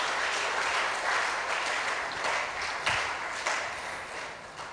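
An audience claps steadily, a dense, even wash of many hands with a few sharper individual claps standing out, continuing without pause and with no talking over it.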